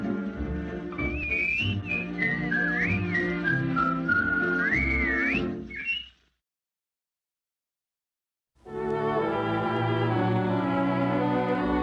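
A bright, clear whistled melody rises and falls over a full instrumental backing for several seconds, then everything drops to silence before the music resumes without the whistling.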